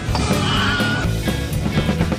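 A shrill, wavering Wilhelm scream sound effect cuts through a busy, rhythmic music track, its pitch bending over about a second before the beat carries on underneath.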